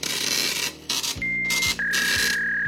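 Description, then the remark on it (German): A fax machine runs with a raspy, scratchy printing noise in bursts, then gives out steady high-pitched electronic tones, one after another, over a low mechanical hum. “Aber in vielen Behörden wird heute wirklich noch täglich mit Faxgeräten, Blaupapier und ähnlichen Dingen gearbeitet.”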